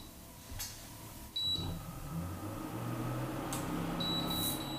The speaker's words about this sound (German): Was man jetzt auch hört, ist der Ventilator des Induktionsplattenherdes.